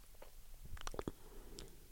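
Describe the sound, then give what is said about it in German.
A quiet swallow amid wet mouth noises, with a brief cluster of clicks and gulps near the middle and soft smacking before and after; no one speaks. “Runterschlucken.”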